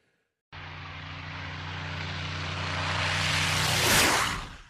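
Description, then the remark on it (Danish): A low-flying British Spitfire 9 (a so-called Tiefflieger) flies right over a microphone; its propeller engine roars in abruptly and grows steadily louder, peaking as it sweeps overhead with a sharp drop in pitch, then quickly fading. No voices. “Vi hører her en såkaldt Tiefflieger, en britisk Spitfire Submarine 9, flyve lige over en mikrofon fra, det er så fra vores tid.”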